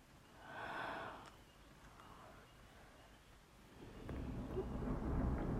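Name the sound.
thunder outside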